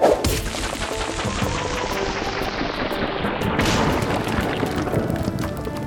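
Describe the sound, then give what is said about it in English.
A game sound effect of the player throwing a rock, played from an audio game's sound-learning menu: a loud, gritty rushing whoosh that sweeps downward, then a crunching impact partway through, trailing into rumbling noise. No one speaks. “You throw a rock.”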